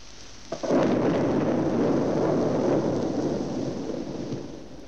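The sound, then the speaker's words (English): A sudden heavy blast from a Nazi German V-2 rocket striking Britain, the rocket plunging from the stratosphere faster than sound, breaks in after a brief quiet moment, then rolls on as a loud, sustained, deep rumble that barely fades. No voices are heard. “The V-2, outstripping sound in its lightning plunge from the stratosphere.”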